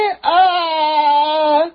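A voice imitates the bray of a donkey under a window, 'ee-aw': a short clipped note, a brief break, then one long sustained, fairly high, wavering cry at steady loudness, with no other sounds.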